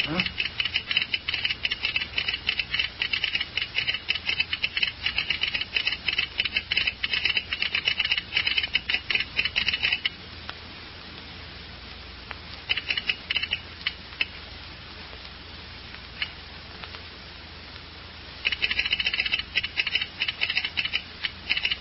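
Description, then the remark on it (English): An agent's telegraph key clatters in fast, irregular bursts of sharp, bright clicks, with a quieter pause around the middle before the tapping resumes in shorter runs. “Yeah, we might do that when the agent fella gets through telegraphing.”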